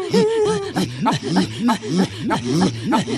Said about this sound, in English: Now, that sound is not what you think it is. It's actually part of a kind of a religious chant done by the Inuit. Inuits. Oh. This happened to be up in northern Canada.